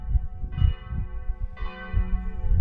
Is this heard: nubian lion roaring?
no